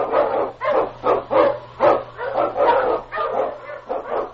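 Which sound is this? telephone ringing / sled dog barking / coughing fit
sled dog barking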